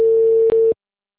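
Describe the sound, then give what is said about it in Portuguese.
A phone's ringing tone on a call: one steady, mid-pitched electronic beep holding for about three-quarters of a second before cutting to silence. No one speaks. “Tá só chamando.”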